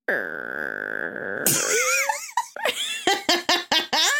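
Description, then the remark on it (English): A voice imitates a creaking door: a long, steady, strained drone breaks into high squeaky wavering glides, then trails off into a rapid run of short choppy vocal bursts. “This is a door creaking open.”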